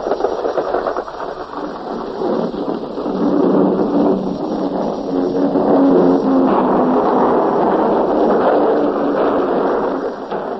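bombs exploding

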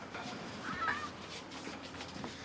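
pet bird squawking

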